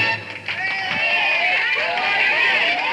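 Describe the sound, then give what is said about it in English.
A large crowd applauding and cheering loudly and continuously, a dense wash of clapping mixed with shouts and whistles that holds steady for the whole stretch. “Nothing like giving yourself a round of applause before you start.”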